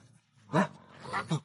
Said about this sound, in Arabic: الكلاب في كل مكان، إنها من حولي.